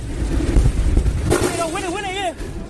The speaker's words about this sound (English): Children at a primary school hide under their desks as the sound of fighter jets fills the air.